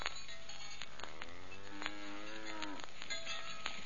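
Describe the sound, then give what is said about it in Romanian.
A cow named Joiana lets out one long, drawn-out moo that slides downward in pitch near the end, with a few sharp clicks or clanks scattered before and after. “Firai tu să fii de vacă, nătântoală, prostănacă.”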